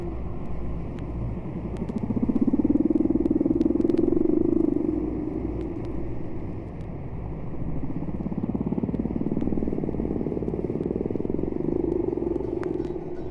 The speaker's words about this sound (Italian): Queste note misteriose arrivano da una balena lontana, si distingue comunque un canto.